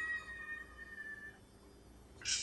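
A cat standing on the threshold of an open door, with cold weather outside, gives one long, drawn-out meow, fairly soft, followed by a brief, sharp rustling burst near the end. No one speaks.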